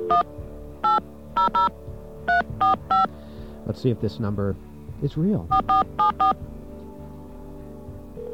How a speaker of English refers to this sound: But first, let's get our friendly dial tone online. No, we don't have a dial tone. Okay, now we have a dial tone. We're going to dial.